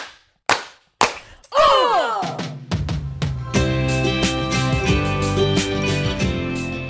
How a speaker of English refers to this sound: We're doing three clap. Stretch it out. Okay. Three clap. Are you ready? On three. Right. One, two, three.